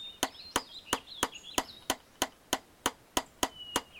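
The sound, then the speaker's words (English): Steady hammering on a wooden block shelter floor frame, about a dozen sharp, evenly spaced blows roughly three per second, with faint birdsong chirping in the background and no talking. “Sit down the hammer on it, and that will give me a block shelter floor frame.”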